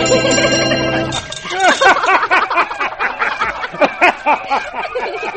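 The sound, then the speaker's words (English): A cable car bell clangs as the cable car comes around a curve, a bright ringing tone with a sustained metallic shimmer, then gives way to lively, chattering voices and giggles. “Aha, hear that bell? It's the little magic cable car coming around the curve”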